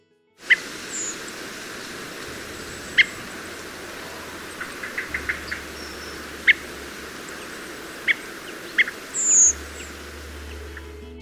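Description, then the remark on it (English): Winter thrush calls: a dark brown bird with a bright stripe above its eye and an orangey-red tinge under its wings gives several short, thin, high-pitched notes at irregular intervals, ending in a slightly longer seeep, over a steady hiss of background noise with a low rumble. “Listen out for their calls like this.”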